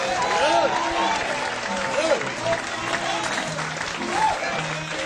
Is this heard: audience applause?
yes